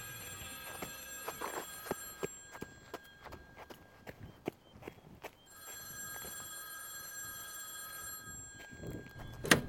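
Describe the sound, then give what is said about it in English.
A telephone rings with a steady high-pitched bell tone, accompanied by sharp, rhythmic knocks like hoofbeats or footsteps, with no talking. “Answer the damn phone.”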